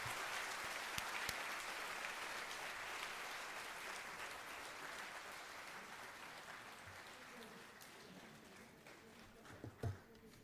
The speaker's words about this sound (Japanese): それでは勝谷先生がご退出されますので、もう一度大きな拍手をお願いいたします。